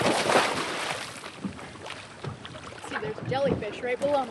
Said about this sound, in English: On a sunny September Keys morning, researchers from the Nature Conservancy take their boat out to one of the new coral nurseries.